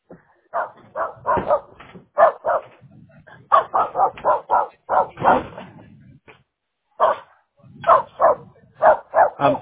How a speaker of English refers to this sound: I'm sorry, this dog is barking.